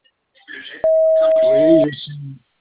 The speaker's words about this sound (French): Veuillez nous laisser votre message et nous vous recontacterons dans les plus brefs délais. À la tonalité, enregistrez votre message.